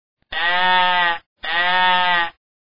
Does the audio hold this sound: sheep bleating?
yes